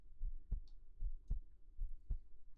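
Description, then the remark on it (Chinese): A quick heartbeat thumps steadily in muffled lub-dub pairs, three double beats in a row, with no voices and little else around it. It is a younger schoolmate's heartbeat, beating fast. “好像是学妹的心跳声呢。怎么跳得这么快呀？”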